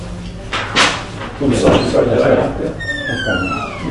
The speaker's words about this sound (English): I'm just going to open the door for a second so we don't miss me.